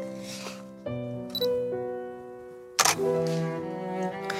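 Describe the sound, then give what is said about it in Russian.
A couple of sharp camera shutter clicks snap out over a steady, sustained tonal background, one short and crisp, the other louder and fuller, a second or so apart, as a photograph is taken of the Khristorozhdestvensky church (Church of the Nativity of Christ). “Если бы я делал эту фотографию в те годы, когда отец Василий служил в Христорождественском, она получилась бы нарядней.”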